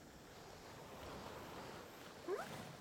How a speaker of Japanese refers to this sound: 風、気持ちいい。最高でしょ、海。